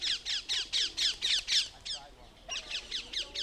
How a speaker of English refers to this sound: A colony of parakeets has taken over the British capital, feral parakeets. These small green birds originate in South Asia and Central Africa. Nobody knows exactly how they got to London.